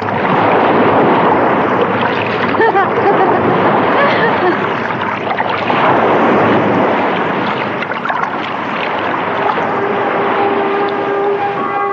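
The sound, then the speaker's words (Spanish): Loud, steady rush of flowing river water fills the whole recording, continuous, with faint voices murmuring underneath. “¡Aquí voy con el río este!”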